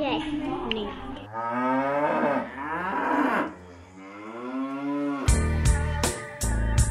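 A cow moos loudly in a long, wavering low that rises and falls for several seconds, followed by a burst of sharp clattering knocks.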